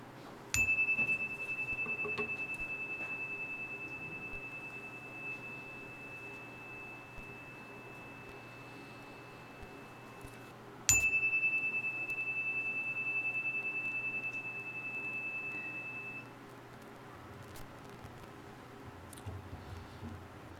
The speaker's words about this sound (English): Let us now embrace a moment of silence. I will ring the chime and end with the chime as we embrace the silence.